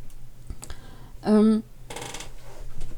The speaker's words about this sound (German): Knarzender Stuhl, auch schön.